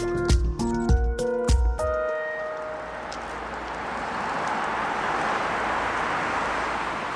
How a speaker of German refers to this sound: Den ganzen Tag lang rollt der Verkehr über die sechsspurige Fruchtallee in Hamburg-Eimsbüttel.